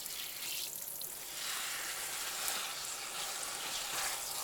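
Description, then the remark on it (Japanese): Water runs in a steady, hissy stream to rinse away soap foam, a continuous bright spray with slight swells in strength and no voices throughout. “それでは泡を流していきます。”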